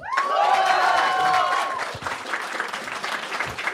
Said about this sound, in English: Okay, all right. Round of applause.